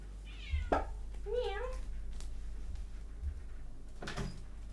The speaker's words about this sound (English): Meow.